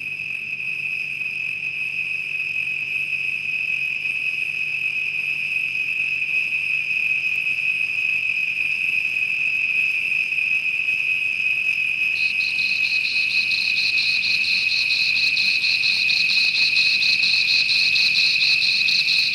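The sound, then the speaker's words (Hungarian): A dense, steady chorus of thousands of crickets chirping together in a valley, a continuous high-pitched trill, constant and enveloping, growing slightly fuller toward the end with no voices present. “Több ezer tücsök ciripel a völgyben.”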